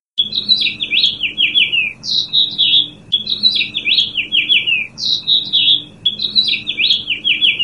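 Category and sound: bird, house finch singing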